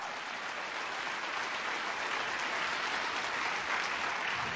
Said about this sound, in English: Give Him applause.